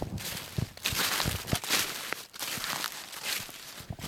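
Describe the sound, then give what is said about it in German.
Footsteps walking outdoors along a green fence about 20 cm high, between a road and a wooded hill, while people check buckets sunk in the ground for toads, newts, frogs and salamanders; a steady series of soft crunching steps over a constant rushing hiss, with no voices. “Wir laufen jetzt hier gerade am Zaun entlang und schauen in den Eimern, die am Zaun in Boden gelassen sind, ob da Kröten reingefallen sind, richtig?”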